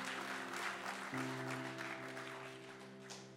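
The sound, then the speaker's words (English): An audience claps steadily for a few seconds, a dense patter of many hands, while a sustained keyboard chord hums underneath and shifts to a lower note partway through. “Come on, you could clap for that.”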